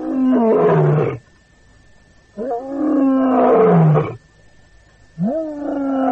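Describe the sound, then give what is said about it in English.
A lion roars in three powerful, drawn-out bursts separated by brief pauses, each one deep and rumbling with a rough, throaty edge. No one speaks. “From those seldom heard underwater sonar sounds of the dolphin to the more familiar roar of the king of beasts.”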